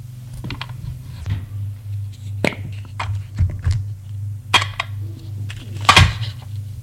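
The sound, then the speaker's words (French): A medicine cabinet is opened in a washroom and tablets are handled, heard as a series of sharp clicks and small knocks spaced irregularly over a steady low electrical hum. “Ouvre l'armoire à pharmacie. Un truc de comprimé.”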